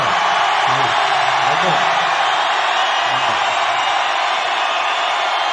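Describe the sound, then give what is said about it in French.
A dense, steady roar from a large concert crowd shouting and cheering, loud and continuous throughout, with a few individual voices rising briefly above the wash of noise. “Mais depuis tout à l'heure, on vous demande de gueuler. Vous gueulez.”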